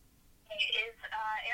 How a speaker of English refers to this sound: I'm getting a phone call. It's for the election. A second here.